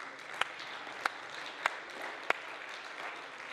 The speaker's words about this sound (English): Can we give him a hand clap one more time?